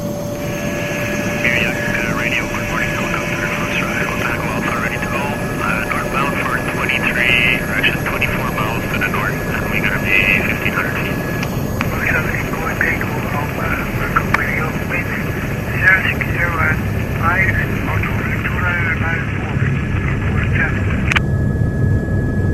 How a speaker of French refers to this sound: Et dans cet environnement, l'hélicoptère est l'un des meilleurs amis du chercheur.